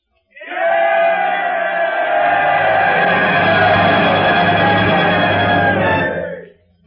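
A crowd roars and shouts together in one loud, sustained burst lasting about six seconds, rising quickly and then cutting off, with no individual words standing out.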